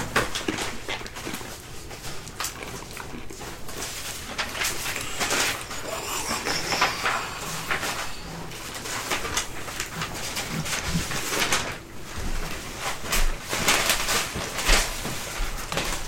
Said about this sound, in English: This shuffling of papers is brought to you by alcohol.